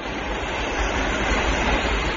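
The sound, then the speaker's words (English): A steady, dense rumble of a train running along the rails as it goes down a hill, continuous and fairly loud with no speech, a broad rushing roar that holds even throughout. “Now it's going down the hill.”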